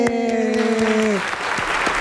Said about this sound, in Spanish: Aplausos, por favor.